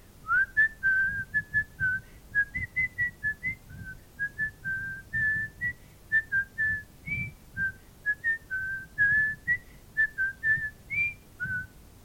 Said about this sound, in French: … s'en va en sifflant.